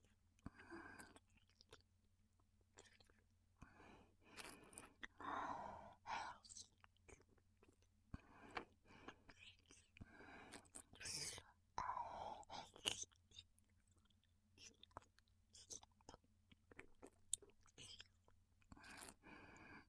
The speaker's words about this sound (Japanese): 吐息混じりの耳なめ、やばい。